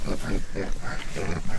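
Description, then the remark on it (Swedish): Pigs grunting on a farm, a rapid series of short, rough, throaty grunts repeating every fraction of a second, fairly loud and continuous. “Kom så ska du få träffa grisar.”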